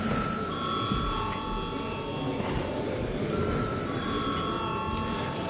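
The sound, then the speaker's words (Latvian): The chairman's bell in the Saeima, Latvia's parliament, rings before a vote, a sustained high, bright tone that holds for several seconds with a slight shift partway through, over a low background murmur. “Paldies, lūdzu zvanu.”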